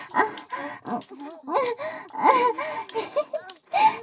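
Someone cries and moans in close, breathy bursts, with sharp gasping intakes and wavering wails rising and falling in uneven rhythm. No words are spoken.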